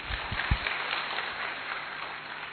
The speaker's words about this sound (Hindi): मैंने ये देखा जो 80% से ज्यादा कोई एक दो पर, यहां तो 80% ने हाथ उठाया, तो आप सबके लिए तालियां।